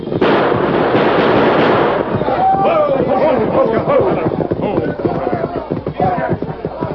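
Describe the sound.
A dense roar of gunfire fills the first couple of seconds, then sharp cracks keep popping beneath a chaotic jumble of shouting voices and cries, including a masked man's cry, as shots ring out in darkness lit by fires.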